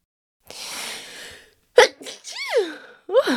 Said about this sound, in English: And yeah, of course, I had a blooper once again. So have fun listening to me sneezing now.